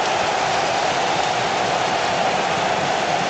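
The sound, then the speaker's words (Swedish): A stadium crowd at Camp Nou roars after a goal by Ronaldinho, a loud, dense wall of noise that holds steady throughout without swells or breaks, with no single voice standing out. “Publiken exploderar på Camp Nou.”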